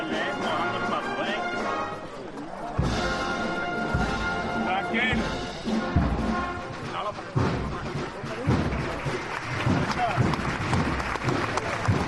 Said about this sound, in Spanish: Unos aplausos al término de esta marcha mientras sigue andando el palo intentando ganar los máximos metros posibles.